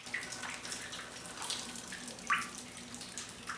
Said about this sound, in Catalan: L'aigua s'escola sota la porta del lavabo buit.